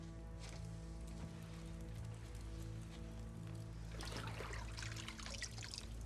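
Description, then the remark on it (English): A woman dips a cloth into the water of a metal bathtub in which a man is bathing, and water trickles and drips, loudest in the last couple of seconds, over a steady low musical drone. “His wife approaches the edge of the bath and dips a cloth into the water.”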